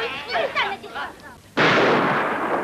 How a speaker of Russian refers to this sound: Что касается Фигана, то ему удается уйти из-под выстрелов живым